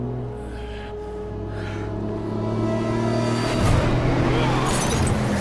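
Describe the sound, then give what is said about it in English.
A heavy truck engine drones and grows louder as it approaches, a truck carrying a cargo of timber, then a sudden loud crashing impact bursts in partway through as a man is thrown against it, while the engine keeps rumbling. “He tosses Logan at an oncoming truck.”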